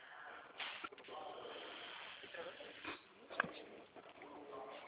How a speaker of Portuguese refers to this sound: Cadeira solta. Não é a cadeira. Lógico que é.